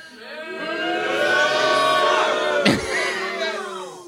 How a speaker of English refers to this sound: And when you agree with me, I would like for you to cheer. Give that a shot right now.